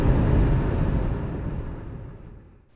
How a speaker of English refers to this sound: Now I'm using the internal microphone of the recorder with the Zoom windscreen. And it is picking up much more road noise because it has more low end. And let's see what it sounds like.